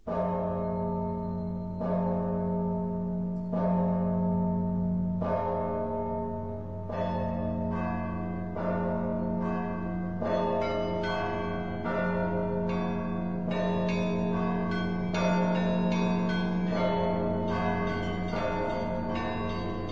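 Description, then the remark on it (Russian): Lenten church bell ringing with no voices: deep tolling strokes under a quicker peal of smaller bells that grows busier and louder over time, the tones ringing on and overlapping. “Давайте послушаем с вами великопостный звон.”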